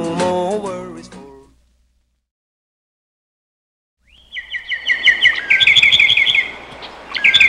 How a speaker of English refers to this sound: Birds chirp, bees buzz,